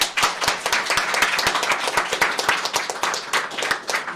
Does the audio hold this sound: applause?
yes